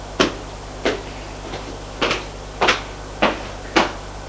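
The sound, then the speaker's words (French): A series of about six or seven sharp knocks on the door of a doctor's office in a hospital intensive care unit, fairly evenly spaced with one softer tap among them, over a low steady hum and no voices. “Frappe à la porte.”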